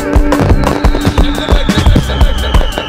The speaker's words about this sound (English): Fresh Friday, July 4th weekend. Yeah, fireworks. Can we get some fireworks right now? Yeah, like that.